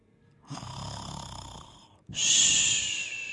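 A bear snoring deeply in two long breaths: first a low, rumbling inhale, then a brief pause followed by a louder, raspy, hissing exhale, alone.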